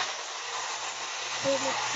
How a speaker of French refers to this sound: C'est bien le moment pour le bruit d'aspirateur.